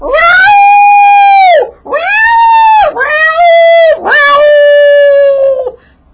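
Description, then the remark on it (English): Stray cats yowl in mating season on a summer night in Flora, Indiana, in four long, drawn-out cries, each rising and then sagging in pitch with a strained, wailing tone. The calls are loud and follow one another closely, with no talking. “And so I can remember lying on the Davenport and on a summer night with the window open and listening to the cats singing their arias of passion.”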